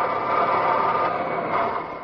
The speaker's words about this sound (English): Well, my dad works in the airplane assembly line there in Texas. Sure would like to hear the sound of all the work going on in the plane factory.